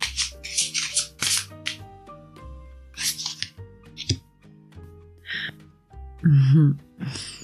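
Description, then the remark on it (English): Quick papery bursts of a deck of cards being shuffled, fairly loud, in a couple of short runs over soft, steady tonal music. “Okay, so let's shuffle these cards.”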